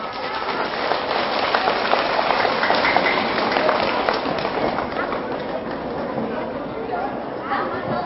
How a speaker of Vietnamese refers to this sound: Do đó đó, nếu các cháu thấy rằng từ bỏ việc ăn vụn vặt, ăn nhanh ở ngoài đường, ở trước cổng trường và chịu khó ăn cơm ở nhà trước khi đến lớp là có thể thực hiện được trong tầm tay, thì hãy dâng cao tràng vỗ tay thật lớn.